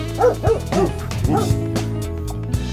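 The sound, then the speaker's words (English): A dog barks about four times in quick, uneven succession, clear, over a steady musical backing that keeps playing after the barking stops. “You gotta bark.”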